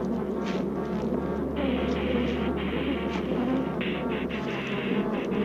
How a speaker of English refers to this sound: Even as Dr. Gary left the hive area, the bees persisted in their attack.